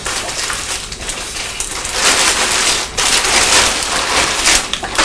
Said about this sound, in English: There's lots of crackling with plastic bags this morning. Isn't there?